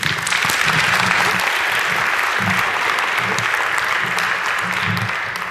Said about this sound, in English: Give a warm round of applause